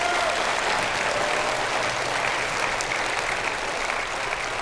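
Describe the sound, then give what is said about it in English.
A crowd applauds the men and leaders up front steadily, a dense, even wash of clapping that holds at a constant loud level for several seconds with no voices. “give them all a big hand, will you please?”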